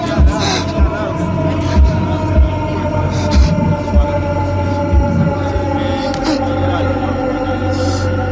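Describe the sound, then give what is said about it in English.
Low, thudding heartbeats pulse over a steady droning hum, the beats spacing out further and further apart until they stop, leaving only the drone. “Very effective use of visuals, and then also with the sound, with the heartbeat slowing down and stopping.”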